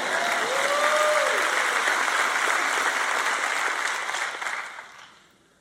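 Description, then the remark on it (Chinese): Audience applause rings out with a steady, dense clatter of many hands clapping, holding for several seconds before thinning out and fading away at the end. “你看，你们的掌声不像对其他内容掌声那么响亮。”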